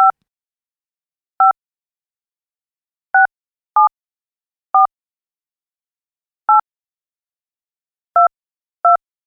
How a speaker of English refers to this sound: I grabbed my phone and dialed Jake as fast as I could.